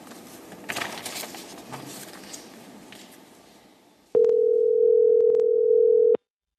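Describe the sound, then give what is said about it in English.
Soft, textured background rustle fades, then a loud, steady telephone tone sounds for about two seconds at one mid-low pitch, starting and cutting off abruptly with faint clicks, as someone calls the voicemail of their late father. “I know it's kind of weird I'm calling you after you're gone, but it's nice to hear your voice on that little message.”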